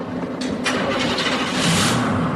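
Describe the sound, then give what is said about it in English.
A very dirty vehicle's engine cranks and catches in a salt mine in Kansas, then settles into a loud, steady rumble with a rough mechanical hiss that swells slightly toward the end. No one speaks. “This is a very dirty car. Thank you. Just going for a little cruise in the salt mine.”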